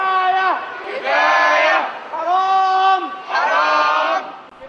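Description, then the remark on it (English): A crowd of Egyptian protesters chants in unison against Mubarak, repeating the slogan "kafaya", Arabic for enough, in three loud, rhythmic bursts, the massed voices rising and falling together with brief dips between each phrase. “Participants campaigned explicitly against Mubarak for the first time, shouting kafaya, the Arabic word for enough.”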